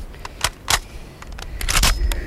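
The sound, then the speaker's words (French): Someone reloading a muzzle-loading rifle while hiding in a shell crater: a handful of sharp metallic clicks and clinks at irregular intervals, ending in a quick rattling cluster over a low background rumble. “Faut recharger, c'est difficile de recharger. Faire attention de pas boucher le canon.”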